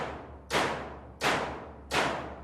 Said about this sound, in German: Die Idee war nun, möglichst ohne viel Eingriff in das bestehende Gebäude das Instrument zu bauen und mit vernetzter Elektronik, mit Mikrocontroller und Dubmagneten Hammerwerke zu bauen, die diese Hütte beklopfen.